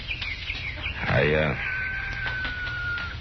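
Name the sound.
hens clucking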